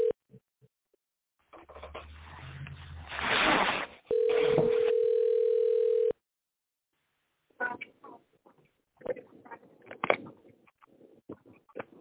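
A telephone line crackles with hiss, then a steady, low dial tone hums for about two seconds and cuts off, followed by choppy, broken connection sounds as a dropped call to a caller is redialed.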